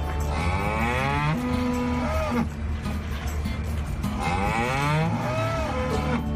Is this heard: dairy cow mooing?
yes